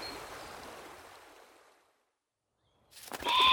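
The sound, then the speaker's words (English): A soft watery wash fades into silence, then a sudden loud burst of frantic flapping and splashing erupts from a bird trapped in a river, unable to fly or swim, with a sharp squawk-like tone cutting through. “Look, this bird's trapped. It can't fly or swim.”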